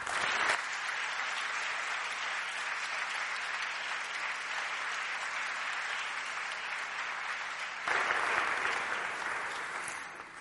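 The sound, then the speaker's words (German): An audience in Greifswald applauds warmly and steadily for about ten seconds to welcome a speaker on stage, a dense wash of clapping with no voices, swelling slightly louder near the end. “Berge können wir Ihnen in Greifswald leider nicht bieten, dafür eine Bühne, ein Mikrofon und einen herzlichen Applaus zur Begrüßung.”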